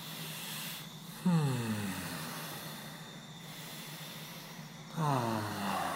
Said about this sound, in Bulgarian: Пусни. Нормално дишане.